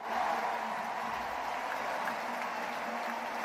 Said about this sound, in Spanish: Esta es la ovación que se ha llevado Nadal de París. Hay que ser muy grande para ser despedido así después de una derrota.